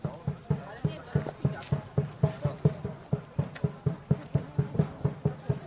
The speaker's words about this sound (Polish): Ten dźwięk to walenie w kocioł towarzyszy zawsze łowickiej pieszej pielgrzymce, która w tym roku wyrusza już po raz 365.